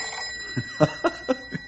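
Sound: telephone bell ringing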